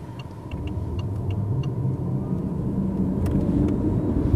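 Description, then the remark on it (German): A BMW i8 plug-in hybrid car (petrol and electric, over 300 hp) running while being tested in Trochtelfingen on the Swabian Alb, with a steady low engine and road rumble, fairly loud, that swells slightly over a few seconds. Faint ticking sounds come and go above it. No one speaks. “Heute testen wir den BMW i8 mit über 300 PS, Plug-in-Hybrid, also sowohl Benzin als auch elektronisch.”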